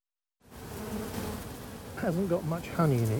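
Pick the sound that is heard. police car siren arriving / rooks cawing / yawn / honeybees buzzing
honeybees buzzing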